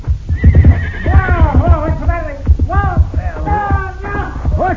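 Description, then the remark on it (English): A horse neighs in a series of high, wavering whinnies while hooves clop rhythmically beneath, loud throughout. “Pancho, hit your horse with a slingshot, Bandito.”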